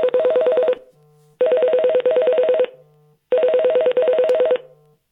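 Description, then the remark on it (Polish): An incoming phone call ringtone plays through a speaker paired with the phone, in three repeated bursts of rapid electronic trilling, each about a second long with short pauses between, fairly loud and with no one talking. The call is rejected by holding down the start button. “I ja teraz odrzuciłem to połączenie, trzymając długo przycisk startu.”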